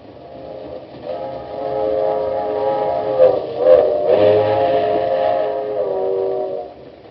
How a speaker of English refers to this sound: You tell the conductor to take this train straight back to Washington.